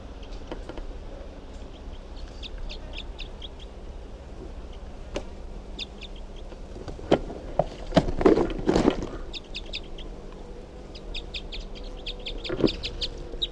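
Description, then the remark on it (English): A wild bird that has just been captured, bird number 369, lets out a burst of harsh, loud squawks midway through, with a later single squawk, while faint high chirps repeat over a steady low background hum. “So recording, that last bird was just captured, and that'll be bird number 369.”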